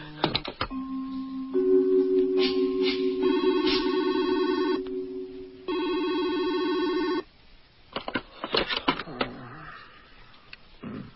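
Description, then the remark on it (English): A telephone rings loudly in two long, buzzing electronic bursts separated by a short pause, followed by a few seconds of muffled handling noise. “Don't answer your phone, okay? Don't even let your answering machine answer your phone.”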